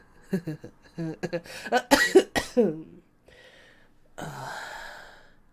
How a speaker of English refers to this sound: attractive way of coughing. Look, it's just a cold.